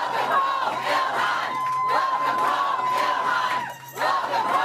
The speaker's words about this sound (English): And Congresswoman Ilhan Omar, the Democrat targeted by the chant, was greeted by a cheering crowd in Minneapolis as she returned to her home district for a town hall on health care.